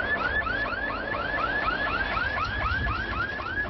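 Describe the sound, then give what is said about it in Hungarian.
The fire service siren on Trombi, a small Trabant car, sounds in quick, repeating rising-and-falling yelps, a steady high-pitched cycle that stays loud throughout with no voices, played as a demonstration of how it would sound rushing to a fire. “Ilyen lenne, ha Trombinak tűzesethez kellene rohannia.”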